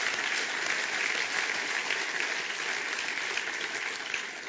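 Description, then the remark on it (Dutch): A church audience applauds steadily for several seconds, giving God a hand of praise: a dense, sustained wash of many hands clapping with no pauses and no voices, holding at an even, fairly strong level throughout. “En als je dat ook gelooft, laat je God eren met een applaus.”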